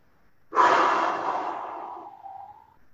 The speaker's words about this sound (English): So let's begin again. So first we'll just maybe just take a deep breath in and exhale.